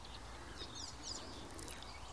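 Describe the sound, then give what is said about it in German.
A few thin, high squeaky bird calls, like "mie, mie", sound briefly, faint against a steady outdoor background hiss; the bird is directly in front of the listener. “Aber der Vogel, auf den wir es abgesehen haben, der ist genau vor uns. Man hört vielleicht diese quietschenden Geräusche.”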